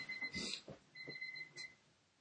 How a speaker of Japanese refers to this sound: このピピピピは、すいません、今入っちゃいましたけど。 はい、ピピピピは。 ピピピピは何かというと、多分お風呂の水を止めてこいというピピピピだと思うんで、今止めてきますけれども、